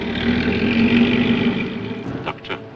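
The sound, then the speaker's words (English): The engine of a car driven by Hassard hums steadily with a low droning tone, fairly loud, then eases off near the end with a couple of brief sharper bursts. “In another car, Hassard drives the others.”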